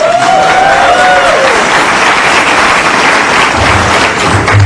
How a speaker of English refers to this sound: Come on up. We love her. Everybody clap!